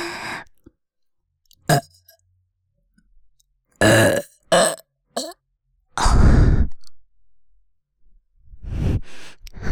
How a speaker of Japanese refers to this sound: あ、でも今は先生のオナニーのおかずになるように頑張って、うん、ドスケベゲップ連発させます。